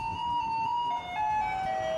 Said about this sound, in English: that could be garbage trucks in Taiwan that play Fur Elise